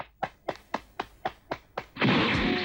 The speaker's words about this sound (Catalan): En Yamcha li etziba una puntada i llança cops de puny a l'aire.